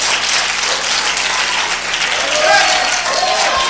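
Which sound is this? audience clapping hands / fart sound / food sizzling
audience clapping hands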